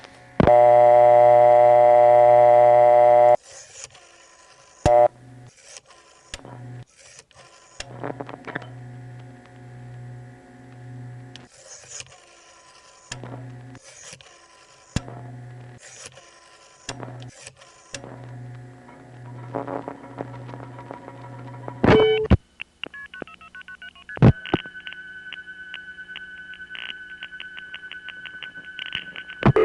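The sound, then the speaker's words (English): A loud steady tone gives way to a string of clicks, buzzing hum and bursts of switching noise, with stops and starts, then another steady tone near the end: an old electromechanical (not digital) telephone exchange of the 1960s Bell system network in New York City dialing and connecting a call. “It was electromechanical. And an electromechanical system doesn't sound the same as a digital system.”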